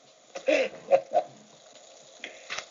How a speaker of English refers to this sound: Why is it bubbling?